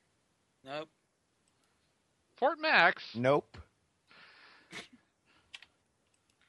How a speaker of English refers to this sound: Who's typing? Not me this time.